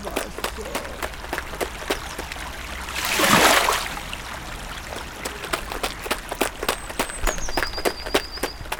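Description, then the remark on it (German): Flowing stream water babbles steadily beneath a quick run of footsteps, with a louder rushing swell about midway and a short high whistle near the end. “doch dann eilte er zum Bach.”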